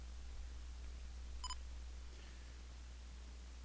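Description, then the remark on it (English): An Olympus WS320M voice recorder gives a quick, sharp double beep confirming stop after its stop button is pressed, brief and clear against a low steady hum, with quiet before and after and no one talking. “And when I do that, the Olympus will acknowledge by giving two beeps.”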